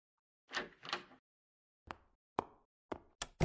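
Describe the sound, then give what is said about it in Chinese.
An office door is handled, with a rustling rattle followed by several sharp wooden clunks and knocks as it is opened and shut, each impact short and distinct, with no one speaking. “哇哦，福尔摩斯亲自为我开门关门。”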